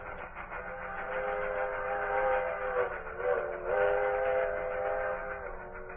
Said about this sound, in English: The evening wind rustled in the trees, and then you'd hear the Tweetsie's whistle, high and thin, like the sound a toy train might make, and the sound of her engine breathing hard because of the incline of the mountain.